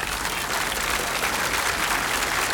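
A crowd applauds steadily, a dense, even wash of many hands clapping that holds at a constant, fairly loud level throughout, with no voices standing out.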